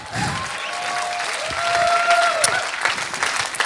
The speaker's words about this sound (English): Let's give Pastor Gary a round of applause.